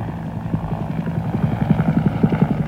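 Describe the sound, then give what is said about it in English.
Air Cav Huey military helicopters, with rotors beating in a steady, rapid low thump over a deep engine rumble that grows slightly louder and more pronounced. No voices are heard. “Huey's over there. Lots of Huey's.”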